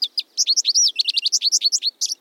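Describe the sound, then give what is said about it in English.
A bird sings a rapid, continuous string of bright, high chirps and warbled notes, clear, with no other sounds around it. “Looking out the window and listening for calls and songs can make birding a part of your daily routine.”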